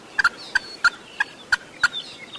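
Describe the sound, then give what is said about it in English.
A wild turkey gobbles during a turkey hunt in rough country on a skid road, a rapid, rattling string of about seven sharp, throaty notes in quick succession, clear and fairly loud with no voices over it. “Going to play the first hunt, my first turkey kill, where we got down and started the turkey and moved in.”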